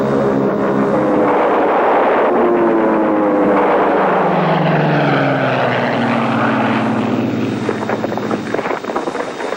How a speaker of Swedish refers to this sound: Sovjetiska flygplan lyfte i gryningen för att oskadliggöra de tyska bombplanen medan de stod kvar på sina flygfält.